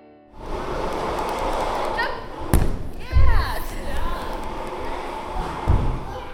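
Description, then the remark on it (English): Athletes training indoors for ski jumping: a few heavy, low thuds land irregularly over a steady, rumbling wash of noise, with brief squeaky scraping sounds between impacts. “You are hearing here what it sounds like when athletes train inside for ski jumping.”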